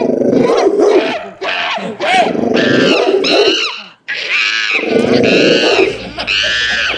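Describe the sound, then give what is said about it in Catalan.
A monkey and a dog fighting behind some bushes in a garden, loud snarling and growling mixed with sharp high-pitched shrieks and yelps in a continuous frantic scuffle, with a brief pause midway. “el mico se li escapa i es fot darrere d'uns matolls. Resulta que allà hi ha un gos. Els dos animals s'han començat a barallar.”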